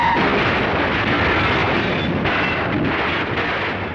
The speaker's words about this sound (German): Wir hören die Lok, die immer näher kommt, sehen den schwarzen Dampf, der den blauen Himmel immer mehr verdeckt und das entsetzte Gesicht des Lokführers. Doch die Vollbremsung kommt zu spät und der mit explosiven Gütern geladene Zug entgleist.